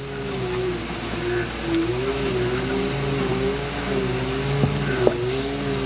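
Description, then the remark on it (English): A lawn mower engine drones steadily throughout, a low buzzing hum whose pitch wavers slightly up and down, with a couple of brief sharp clicks near the end. “The guy who's mowing the lawn is probably a priest.”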